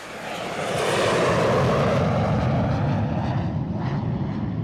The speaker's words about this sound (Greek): Εκείνα τα χρόνια λοιπόν το αεροδρόμιο ήταν στο Ελληνικό. Κάθε φορά που έφευγε αεροπλάνο, χάναμε για αρκετά δευτερόλεπτα, να μην σου πω λεπτά, τον ήχο, τα πάντα από την ταινία που παίζαμε, γιατί πέρναγε ακριβώς από πάνω το αεροπλάνο.